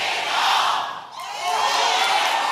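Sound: audience shouting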